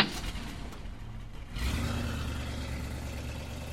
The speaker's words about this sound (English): I can hear the car starting up. They'll be miles away before they realize that report was a phony.